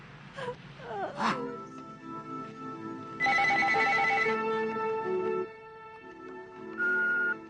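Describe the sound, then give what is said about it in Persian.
A telephone rings with loud, steady electronic tones, one long ring followed by a shorter one. Wavering, moan-like tones sound briefly beforehand, and there is no talking. “گوشی رو بردار، گوشی رو بردار دیگه.”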